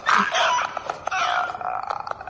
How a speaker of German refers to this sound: Und dann hört man nur noch das Schnattern und Geifern eines Wurmes, dessen Sabber auf dem Weg zu seinem Opfer einfriert und dann klirrend auf seinem Gesicht zerbirst